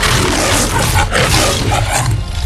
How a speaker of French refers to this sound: Et donc, voici la métro Goldwyn-Mayer. Déjà, vachement fort pour un lion de faire des bruits d'instruments.